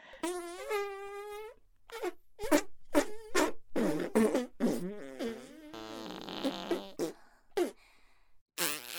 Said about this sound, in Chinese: 对，继续，继续放屁吧。